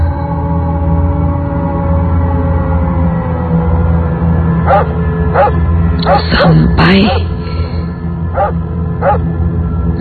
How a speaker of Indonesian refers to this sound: Suara lolongan anjing itu masih terdengar jelas di telingaku.